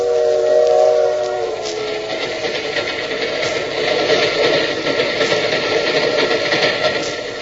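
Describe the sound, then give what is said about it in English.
A steam train's whistle sounds a steady, mid-pitched tone for nearly two seconds, then gives way to loud, hissing steam and a rhythmic chuffing that carries on to the end. No one speaks. “Wish they served food on these trains.”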